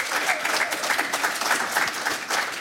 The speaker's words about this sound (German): Einen herzlichen Applaus nochmal, wie schön, dass ihr da seid.